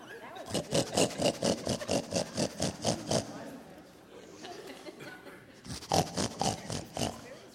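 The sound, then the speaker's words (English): A voice imitates a pig while working a pig puppet, grunting out a rapid run of short, snorting oinks, pausing briefly, then firing off another quick burst. The sounds are fairly loud. “What's a pig say? Oink, oink. Oink, oink.”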